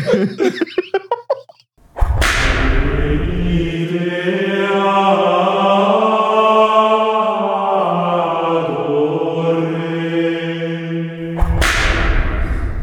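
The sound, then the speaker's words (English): A short 'hya' vocal burst comes first, then a sharp whip crack opens a long, sustained Gregorian-style choral chant of low droning voices, and a second crack snaps near the end. “I'd like to replace the traditional hya with some like Gregorian chanting with one hya and a whip crack mixed in.”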